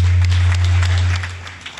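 An audience at a Davis County fair event gives a round of applause for past fair queens, a dense, crackling wash of many hands clapping that stays loud, then thins and fades out at the end, with a steady low hum underneath.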